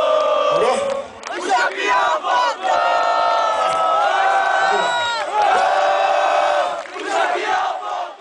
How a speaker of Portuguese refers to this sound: E aí existia um grito nos shows, assim, apesar disso, os fãs felizes, e um grito de "Oh, o Champion voltou". que é muito bom esse grito, né? Combina muito.